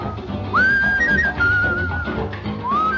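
A whistled melody of long, sustained notes with smooth upward slides, carried clearly over a full dance-band accompaniment with the slightly dull, narrow tone of an old record.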